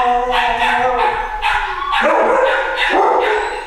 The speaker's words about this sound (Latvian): Cik daudz, tā kā jums ir tie rējēji šeit? Uz doto brīdi šitajā telpā ir trīs, un tur ir kucēni un mamma. Tur ir vēl trīs.